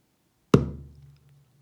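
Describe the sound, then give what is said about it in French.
A single deep hand-drum stroke, struck with all the fingers of the right hand held together at the center of the skin: a sharp onset followed by a low, resonant boom that rings and fades over about half a second. “Par exemple, si l'on frappe au centre de la peau avec tous les doigts réunis de la main droite, on obtient un son grave.”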